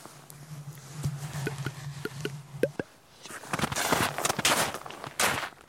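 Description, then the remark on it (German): Slow, cautious footsteps land one at a time over a low steady hum, then give way to louder scuffing, crunching steps on gritty ground. “Ein paar Schritte gehen, stillstehen, horchen.”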